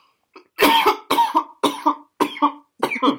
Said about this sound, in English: Oh, God, I'm starting coughing again.